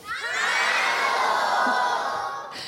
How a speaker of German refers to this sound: Wir sind in Nürnberg beim Podcast Festival. Und wir haben hier Publikum, Gäste, Zuschauerinnen, Zuhörer, Zuhörerinnen und die klingen ungefähr so.